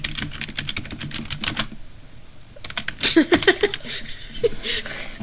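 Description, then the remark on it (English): Rapid, fairly crisp clicking of keys on a keyboard as someone types in a website, in two quick bursts separated by a short pause, with a brief soft voice or chuckle mixed in during the second burst. “we should type in, our site. Like, type in Cody Ball and I'll do it.”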